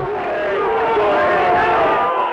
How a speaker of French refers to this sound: Les cris que vous entendez sont l'accueil réservé à M. Defer peu avant 20h aux alentours de la synagogue. Le ministre est arrivé à pied, conspué et même bousculé par plusieurs centaines de personnes, apparemment des jeunes juifs du quartier.